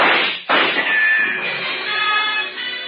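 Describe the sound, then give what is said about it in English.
Two quick gunshots, the slugs thudding into a rug half a second apart. The second trails into a long, harsh rushing noise with a faint high ring. No one speaks. “The slugs tear into the rug beside us.”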